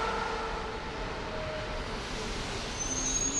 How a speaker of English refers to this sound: Jesus Ramirez watches the commuter trains go by at a railway station in southern Madrid.